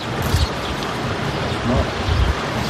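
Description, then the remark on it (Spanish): The Dnieper River in Ukraine, swollen after the destruction of the Nova Kakhovka dam, rushes past in a steady, dense roar of water noise, with occasional deeper rumbling surges and no voices; a house was floating downstream when it was recorded. “Así es como suena el río Dnieper en Ucrania. Baja muy crecido después de que se destruyera la gran presa de Novakayovka.”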